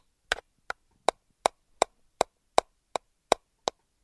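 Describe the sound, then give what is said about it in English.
A voice imitates the escapement ticking of a pendulum clock with about eleven sharp tongue clicks in a steady, brisk rhythm, roughly three per second, with silence between them and no talking. “Now, it's the escapement that you hear when you're listening to a clock and it's going.”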